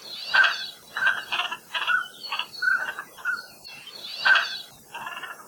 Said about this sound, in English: In Hawaiian, koloa means duck, and mapu means windblown, or wafted in with the wind, perhaps because they would regularly show up in Hawaii with the trade winds every August, making their very duck-like calls.